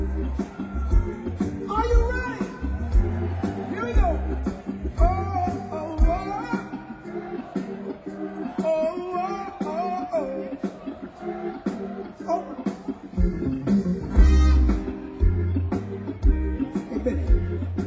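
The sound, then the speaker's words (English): A live crowd sings along in unison over loud band music with a thumping bass beat; the beat drops out midway while the voices carry on, then kicks back in. “You heard that crowd over there. Sounds pretty good.”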